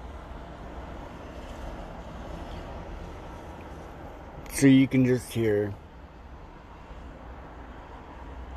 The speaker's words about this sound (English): that it's been non-stop traffic into town. Sure, there's a few second breaks here and there, but all week long,